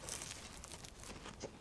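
Soft paper crinkling and rustling of a paper bag being placed under a crispy, ring-shaped croissant-like pastry to catch falling flakes, a continuous papery crackle lasting under two seconds with no voices.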